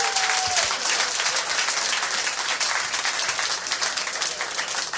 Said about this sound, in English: Come on up, bud. Round of applause. Yeah. Give him some love.